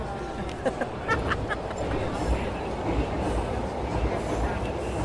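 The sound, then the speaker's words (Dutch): A metro train rumbles steadily overhead, as it does every two minutes, a dense low roar with faint rattling and clatter running throughout, while a murmur of voices mixes in underneath. “Om de twee minuten dendert de metro over ons hoofd.”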